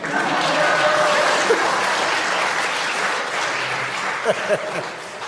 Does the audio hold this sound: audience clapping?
yes